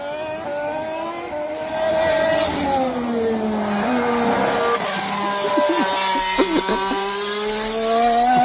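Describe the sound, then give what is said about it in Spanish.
A racing car engine screams at high revs, its pitch sliding down and rising again as it passes, with a few sharp transient clicks near the end and no clear talking over it. “Este es el otro coche.”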